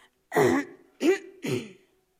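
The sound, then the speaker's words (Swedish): Three distinct throat-clearing bursts in quick succession, fairly loud, each a short rough rasp separated by brief pauses, with no talking, made by someone in a dark, cold alley. “Helt plötsligt så hörde de någon i den här mörka, kalla gränden som harklade sig.”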